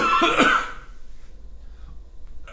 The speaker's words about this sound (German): Wir überspielen diesen Hustanfall mit leichter Musik.